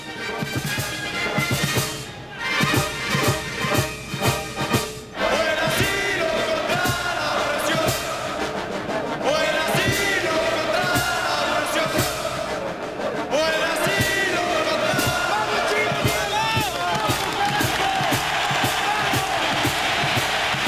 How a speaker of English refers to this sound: For applause like that, that's a solid ending.